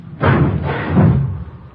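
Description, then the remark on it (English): A heavy garage door rumbles and thuds as it swings open on a chilly day, a broad low-pitched clatter lasting over a second, with no talking over it. “Watch the door,”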